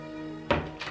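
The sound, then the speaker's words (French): A servant bringing breakfast knocks twice on a door, two dull, muffled knocks, the first louder than the second, spaced about a third of a second apart over a steady low background hum. “On la frappe à la porte.”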